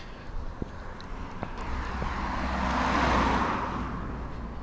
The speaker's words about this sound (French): Ah, je me pousse. Oh, une voiture arrive de l'autre côté, je vais traverser pour éviter de me faire renverser.